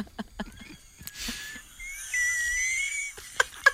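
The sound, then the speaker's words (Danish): A kettle whistles as its water boils: a steady, high-pitched tone that rises slightly in pitch, mixed with a rushing hiss for a couple of seconds. Short clicks and knocks sound before and after. “Så tror jeg, vandet koger igen.”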